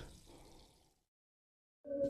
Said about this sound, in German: Hier mal ein Schluck Wasser.